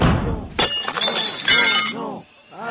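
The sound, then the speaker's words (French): A loud, sudden crash of an Audi car's glass being smashed, followed by a couple of seconds of bright tinkling shards and clinks, with a voice groaning or exclaiming over the tail end. “Bon bah, je la pète, alors.”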